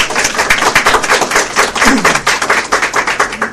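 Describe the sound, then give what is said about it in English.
Steady audience applause at a Sunstone event for Community of Christ guests, a dense patter of many hands clapping at once, moderately loud and continuous throughout with no voices rising above it. “So if we could just give them a round of applause.”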